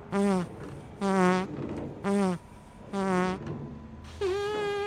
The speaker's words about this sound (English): Are you talking to us or the fart?